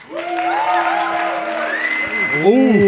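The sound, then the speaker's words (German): An audience applauds steadily for about three seconds for a competing act, the clapping overlaid with loud sustained whoops and cheering voices that glide up and down in pitch. “Und jetzt euer Applaus”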